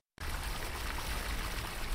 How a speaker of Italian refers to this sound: A fare da sottofondo alle giornate di chi abita le case popolari di Augustenborg è il gorgoglio dei laghetti e, quando piove, dei canali tracciati nei giardini fra le palazzine. Il rumore del traffico qui quasi non si sente.